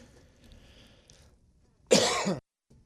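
A single loud, harsh cough from an audience member bursts out after a stretch of quiet murmur, lasting about half a second before fading to silence.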